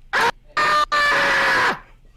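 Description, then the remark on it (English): A person lets out loud, shrill screams: two short bursts followed by a longer, drawn-out scream that trails off into quiet. “I said I wasn't going to get loud because of my microphone thing, so I fucked that up.”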